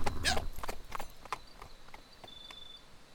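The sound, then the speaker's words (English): Horse hooves clip-clop in a steady, unhurried rhythm of sharp hollow knocks that grow gradually softer over a few seconds as a horse is led back to camp, with no voices present. “Surya, lead my horse back too.”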